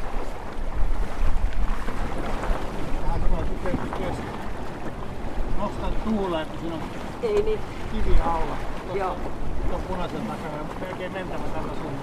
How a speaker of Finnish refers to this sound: Tää tuuli kääntyilee koko ajan. Se tulee välillä melkein perästä. Ja välillä melkein keula edestä. Shiftailee aivan mahdottomasti. Joo, nyt se kaikkein mustin pilven kohta alkaa olla tässä meidän kohdalla. Se selkeästi nostaa tuulta vielä lisää.